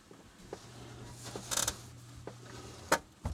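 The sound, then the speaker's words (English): A water softener starts up quietly: a low, steady motor hum settles in beneath a few mechanical clicks and creaks, with a brief hissing burst partway through. “I think my water softener just kicked in.”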